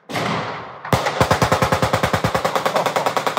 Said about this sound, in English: That's like right next door to my house. Someone just fired off an AK. I can just see tracer rounds arcing through the sky all around me out the window.